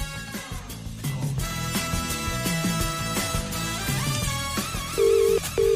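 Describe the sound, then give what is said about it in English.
Music plays, then near the end a loud, steady telephone ringing tone cuts in as two short back-to-back bursts: an outgoing call to a TG Cahir weather presenter ringing on the line. No one speaks. “It's ringing.”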